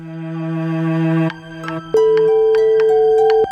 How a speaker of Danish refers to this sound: Skal vi ikke bare få ham til at sige det selv? Jo, det synes jeg. Vi ringer til ham nu.